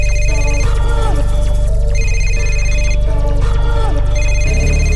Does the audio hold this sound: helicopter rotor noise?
no